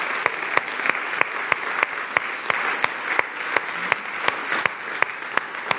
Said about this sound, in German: Gebt doch mal diesen Leuten wirklich einen Applaus.